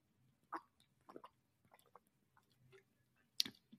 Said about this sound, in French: J'ai repris une petite gorgée de vitamine water, je vous ai pas calé un blanc gratos.